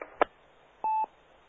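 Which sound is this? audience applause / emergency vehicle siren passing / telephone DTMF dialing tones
telephone DTMF dialing tones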